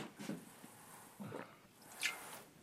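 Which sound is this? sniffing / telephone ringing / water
water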